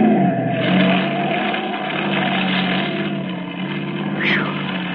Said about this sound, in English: That screwball almost skidded right into us. Yeah, it wasn't his fault. It's this road. Slippery. Oil truck turned over here day before yesterday. They tried to cover it.